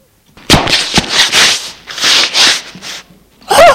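A woman misses a step while going down the stairs one morning and tumbles down the flight: two sharp thuds, then a run of loud scraping, bumping bursts, and a brief pause before a short vocal cry at the end.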